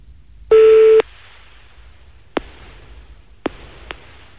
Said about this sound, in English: He's on holiday, as you can hear, foreign ringtone. He's skiing at the moment, he's not answering his phone.